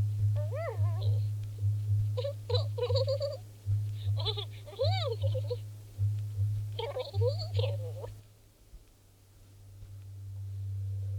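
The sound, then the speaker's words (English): A robotic pet cat purrs with a steady, pulsing low rumble and lets out several short, warbling meows in quick succession. Then it falls quiet near the end. “And there we go, he's purring again.”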